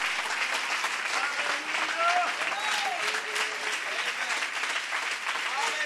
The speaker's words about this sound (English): Can you clap your hands unto the Lord? Come on, can you clap those hands a little louder?